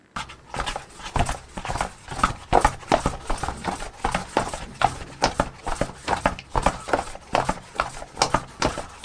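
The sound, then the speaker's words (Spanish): Horse hooves clip-clop in a steady, brisk rhythm of sharp, clear knocks, continuing for several seconds with no one speaking. “Sí, adivinaron, son unos pasos de caballo.”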